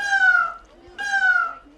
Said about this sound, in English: Those are pet peacocks kept in a cage on the porch.